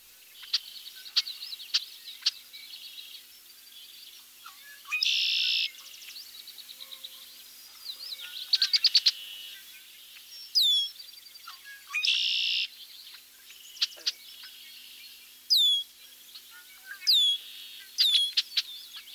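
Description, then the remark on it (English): A medley of red-winged blackbird calls: sharp, repeated chuck notes, several buzzy trilled songs, and thin, high descending whistles, scattered irregularly with no talking. “Now let's hear a medley of red-winged blackbird vocalization.”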